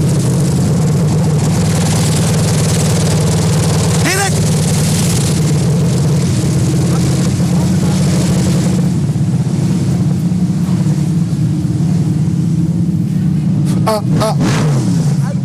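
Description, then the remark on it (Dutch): Loud, steady drone of motocross motorcycle engines rattling and revving during a motocross final, with a brief shouted voice cutting through near the start. “Maar als je tussen die motoren staat, hoor je alleen maar gerammel van die bakkies.”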